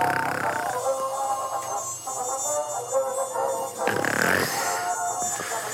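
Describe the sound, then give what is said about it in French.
A thin, wavering whine of a mosquito about to bite a napping human hovers with bright buzzing overtones, drifting in pitch, over a low rumbling like a sleeper's breathing or snoring; a brief rushing swell passes near the end. “Tel ce moustique qui s'apprête à piquer un humain faisant la sieste.”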